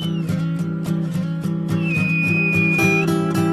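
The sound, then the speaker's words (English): A high, steady human whistle rises and holds for about a second as people imitate a dolphin call at dolphins on the water at Qeshm, over a loud, pulsing musical backdrop; a briefer faint whistle sounds at the start. “For some strange reason, we feel compelled to whistle like dolphins, but they take no notice of us.”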